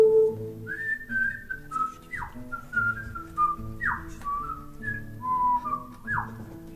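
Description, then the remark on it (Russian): A clear, bright whistled melody moves through short held notes and quick downward swoops, playing over a steady, low instrumental backing with no one talking. “Ёжик резиновый шел и насвистывал дырочкой в правом боку.”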